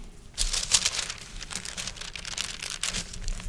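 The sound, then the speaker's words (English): A curled paper is handled and crinkled in a steady stream of dry rustling and crackling that starts after a brief pause and continues throughout, with no talking. “Okay, and so, you know, my paper's curled under here. Can't read it all.”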